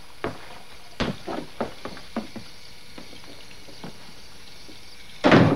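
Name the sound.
door being closed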